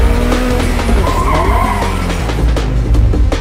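A car skids hard as it turns around, tires screeching over a loud, steady engine roar, with sliding pitch sweeps and scraping bursts.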